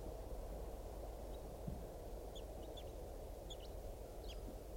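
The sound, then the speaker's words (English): A wild bird gives a series of very soft, brief, high-pitched flight calls, scattered irregularly and faint beneath a steady, heavy rumble of low background noise. “Wild bird is giving some very soft flight calls.”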